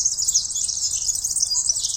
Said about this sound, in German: Und seit mir der Professor diese Eselbrücke gesagt hat mit der verrosteten Fahrradkette, höre ich es jetzt immer. Ich finde, wenn man das einmal weiß, erkennt man den Girlitz immer.